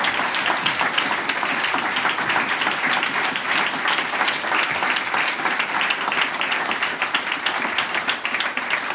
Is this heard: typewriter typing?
no